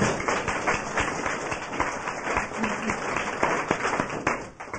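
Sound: round of applause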